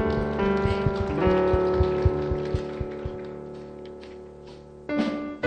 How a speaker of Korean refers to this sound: 하나님께 영광의 박수를 올려드립니다.